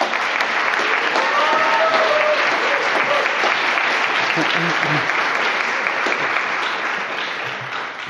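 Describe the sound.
Sustained applause from an audience at a poetry reading, welcoming the poet, a dense steady clatter of many hands clapping that holds for several seconds before gradually tapering off, with faint voices underneath.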